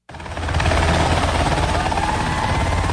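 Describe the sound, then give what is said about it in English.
A helicopter carrying freed hostages roars as it lands at a medical center in Petah Tikva near Tel Aviv, Israel, its rotor blades beating in a fast, steady thump beneath a loud engine whine that holds constant after a quick start. “Helicopter by helicopter, freed hostages landed to cheering crowds at Rabin Medical Center in Petah Tikva near Tel Aviv.”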